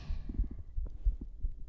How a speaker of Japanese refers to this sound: とっても落ち着きます。まだドキドキしてるけど、